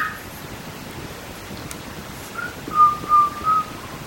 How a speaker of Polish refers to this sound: I są tutaj ptaszki. Tak, na wolności. Zaśpiewaj, Kubusiu, coś. Kubuś, zaśpiewaj coś.